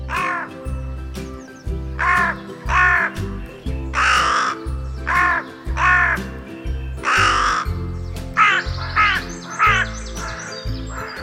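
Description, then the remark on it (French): A crow caws over and over, about a dozen harsh, raspy calls in a steady rhythm, loud, with a few quicker calls bunched near the end. “Et je vous laisse avec ce son de la corneille.”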